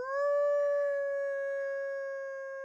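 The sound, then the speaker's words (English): A woman, a biologist, stands in the cold Wisconsin night, cups her hands around her mouth and lets out one long, steady wolf-like howl, imitating a wolf. The held note rises at the start and fades gently over a few seconds, clear with no other sounds. “She raises her face, cups her hands around her mouth, and howls.”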